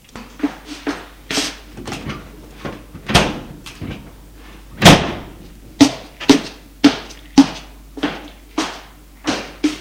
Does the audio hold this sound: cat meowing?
no